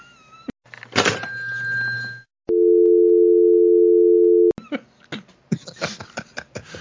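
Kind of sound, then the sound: signal or alarm, telephone dial tone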